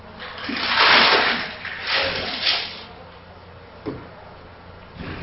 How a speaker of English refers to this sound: The rocks. Okay, it says pour out the rocks.